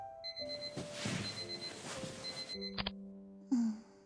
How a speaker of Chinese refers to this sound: 什么会有闹钟响？闹钟，对啊